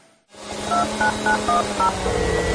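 A phone number is being dialed: five quick touch-tone beeps, each a pair of steady tones, follow one another in an even rhythm over a continuous low hum. No one speaks.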